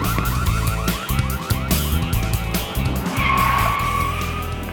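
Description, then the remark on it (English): A car roars loudly as it pulls away, tires screeching in rapid bursts over the engine, with a sustained high whine rising near the end. “I'll get the car.”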